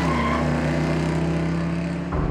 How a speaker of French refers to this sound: Profitant que l'homme soit retourné, Jean-Marie Ribert presse brusquement l'accélérateur de sa voiture et démarre en trombe. Son taxi bondit dans un rugissement strident.